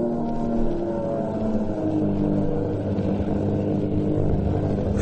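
An airplane flying in fog roars loudly and steadily through a dive, its layered droning tones shifting slightly in pitch over five seconds, with no voices.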